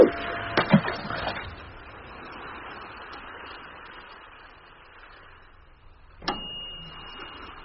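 An oven timer goes off, a thin, steady high-pitched electronic tone ringing out after a couple of sharp clicks, over a low background hum with no one speaking.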